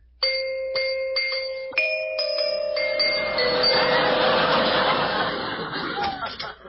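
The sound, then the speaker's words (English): A doorbell at Digby Odell's place chimes several bright, ringing tones in quick succession, clear, before a voice and murky background sound swell up and blend over the fading chime. “Where's the bell? Oh, here.”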